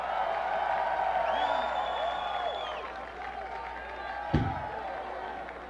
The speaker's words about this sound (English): Hey, tonight's show is being broadcast live over the internet at the House of Blues Worldwide website, so let's give a cheer for the people in cyberspace.